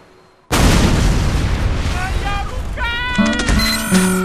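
A heavy, large-caliber, self-built mounted gun opens fire abruptly after a brief quiet, its loud, booming blasts merging into a continuous roar, with whining, tonal sounds rising over the barrage toward the end.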